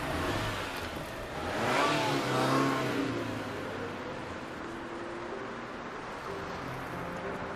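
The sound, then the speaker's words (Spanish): A car engine revs up loudly and steadily while driving, rising in pitch around the middle before settling into a sustained hum with road noise. “Perdone, ¿puede cambiar de marcha? Sí. Por favor, cambie a tercera.”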